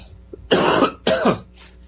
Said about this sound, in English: Excuse me, I've got a bit of a cough today.